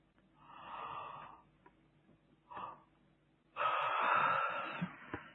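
A breathy intake of air and a brief puff of breath, then a long, drawn-out yawn with a faint voiced moan running through it. No one speaks.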